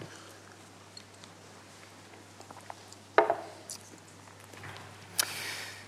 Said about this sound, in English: Take a sip of water first.